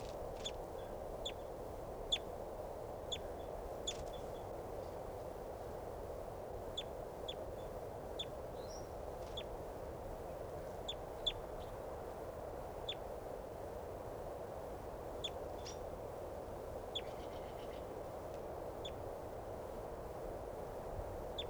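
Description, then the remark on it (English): A wild bird gives short, sharp, high-pitched calls at irregular intervals, each one brief and faint, over a constant low rushing hiss with no voices. “This is a wild bird.”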